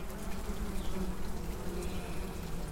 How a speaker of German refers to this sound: So eine Biene lebt ja super gerne in der Stadt. Es gibt inzwischen Untersuchungen, die zeigen, dass die Bienen in der Stadt mehr Honig machen als auf dem Land